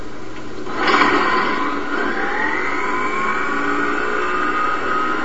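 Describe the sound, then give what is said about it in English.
A small rotary engine without a carburetor, on a test rig at CSIRO's Division of Energy Chemistry in Sydney comparing gas storage systems, bursts into life after a second of low hum, then runs steadily with a loud, buzzing high-pitched drone whose tone climbs slightly as it revs. “Using a test rig based on a small rotary engine without a carburetor, they're able to compare the two storage systems.”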